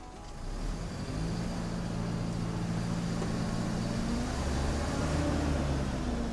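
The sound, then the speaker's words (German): A large bus travelling from Rio Branco to Chapuri, which has to stop again and again, rumbles steadily, its low droning engine tone shifting slightly in pitch as it runs, with no voices heard. “Der Bus von Rio Branco nach Chapuri muss immer wieder anhalten.”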